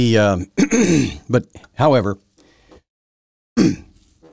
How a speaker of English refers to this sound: I keep clearing my throat here.